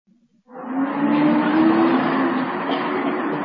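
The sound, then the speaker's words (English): A bus pulls up at a bus stop, its brakes letting out a loud, steady squeal mixed with a broad hissing rush that holds for about three seconds. No one speaks. “A bus arrived.”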